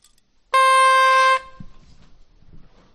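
whistle blown

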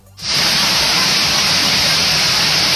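heavy rain pouring down

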